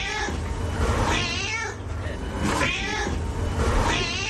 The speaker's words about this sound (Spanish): Sí, la verdad es que sí, pero mi disculpa sí es real, es de mi gato Antoñito.